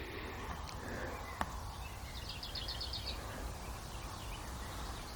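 A songbird near Hagelberg delivers a short, rapid trilled phrase, fairly faint over a steady wash of open-air background noise, with a single sharp click earlier on.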